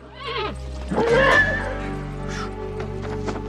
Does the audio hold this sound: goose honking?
no